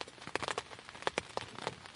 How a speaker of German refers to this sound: Regen prasselt am Morgen gegen das Zelt.